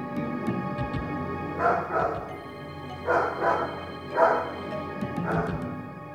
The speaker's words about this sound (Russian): Едва мы спустились, как раздался собачий лай, а затем ужасный вопль, сопровождаемый жутким рычанием.